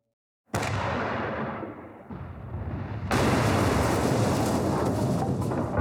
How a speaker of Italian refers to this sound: Il cannone tirò due volte, un colpo dopo l'altro. Sentirono un urto sordo al di sopra delle teste.